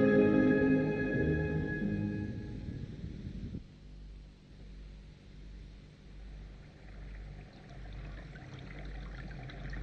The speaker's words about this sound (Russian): Море? Я слышу его. Море. Я мог раньше не видеть его. Море. Море.